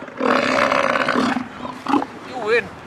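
A large animal lets out a deep, rumbling bellow lasting over a second, followed by shorter guttural grunts and rasping bursts of breath, close and loud.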